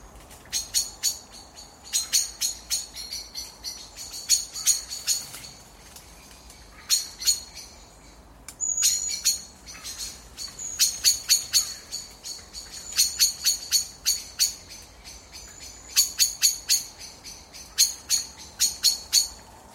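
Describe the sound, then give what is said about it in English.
Blackbirds give sharp, metallic chinking calls in rapid bursts as they go to roost, repeated over and over with brief pauses, clear against a quiet evening background. “And the evening competitions as blackbirds roost.”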